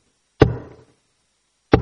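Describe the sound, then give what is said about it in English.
Two heavy knocks on a door, separated by a pause of over a second; each is a sharp, loud thud, the first trailing off in a brief hollow ring. No voices. “He stands knocking”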